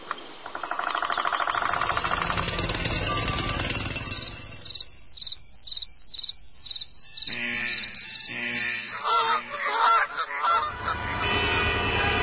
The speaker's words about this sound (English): Take a listen. The Mile High City with cars honking or the Mile Deep Grand Canyon with creeks blowing.